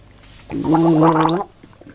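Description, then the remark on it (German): A steady, bubbling gargle of water lasting about a second, with a voiced throaty hum and rapid wet rattling, fairly loud and alone before it stops abruptly. “Erstmal einen Schluck Wasser, genau.”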